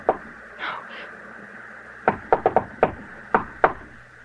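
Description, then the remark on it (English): Knocking on a door: one sharp knock, a pause, then a quick burst of four raps followed by three more spaced knocks, crisp with no one speaking. “Someone knocked, Edith. Open the door.”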